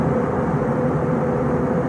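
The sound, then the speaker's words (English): A steady, low droning roar inside an airplane cabin, played from a video filmed by a passenger in an airplane, constant and fairly loud for the whole stretch, with no voices over it. “From an airplane. This person's in an airplane.”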